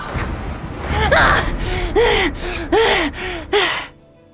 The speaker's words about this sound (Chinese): 收回记忆，钱多多一边重重地喘息着，一边捏紧拳头，愤愤不平地喝道